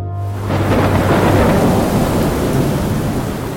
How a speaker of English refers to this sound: New York City, 4 a.m. Down on one of the old wharves, waves are crashing in from an East River which has been whipped into a frenzy.